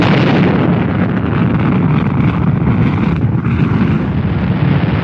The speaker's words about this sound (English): T-minus 10, 9, 8, 7, 6, 5, 4. Main engine start, 2, 1, 0, and liftoff.